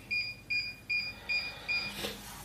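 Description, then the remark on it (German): The touch control panel of a new electric stove beeps five times in a steady, evenly spaced pattern of short, high electronic tones while onions are fried in lard in a pot, then goes quiet after a brief soft rustle. “Ihr hört das ja hier vielleicht nicht piepen.”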